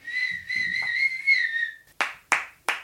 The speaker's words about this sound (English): And then every now and again, I would do something different, like whistle.